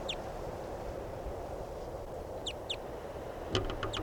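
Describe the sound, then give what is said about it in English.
Crossbill flight calls from a bird flying over: short, high, sharp chips, one at the start, a pair midway, then a quick cluster of several at the end, over a steady low rumbling background. “Recording a crossbill, it sounded different.”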